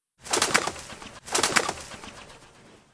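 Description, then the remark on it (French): Pigeons in a small park in town take off in two quick bursts of clattering wingbeats, a loud flurry of flapping that fades out as the birds fly away. No one speaks. “Les pigeons s'envolent.”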